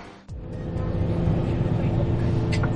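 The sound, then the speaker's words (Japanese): A steady low engine rumble fills the cabin of a moving bus, a sake-fireworks bus heading toward Nankai village in Akita, Japan, past rice paddies. It starts abruptly after a brief quieter moment and continues evenly with road noise, fairly loud, no voices. “バスは南海村の方に差し掛かってきました。”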